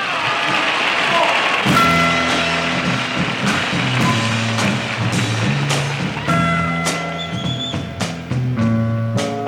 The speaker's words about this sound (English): Welcome now, with a great big fat round of applause, my favorite group,